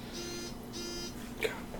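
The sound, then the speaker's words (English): A phone notification beeps twice in quick succession, two short high-pitched electronic tones, followed by a brief click, all fairly quiet over a low background hum. “But first, a word from our phone.”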